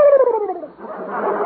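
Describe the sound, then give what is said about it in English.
A turkey on a farm gobbles once, loud: a falling, tonal cry that breaks into a rapid, rattling warble lasting about a second and a half, with no talking. “Turkey.”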